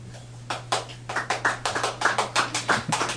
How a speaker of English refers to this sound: I felt this morning it would have been good if we would have clapped our hands. Is it okay to clap your hands in church?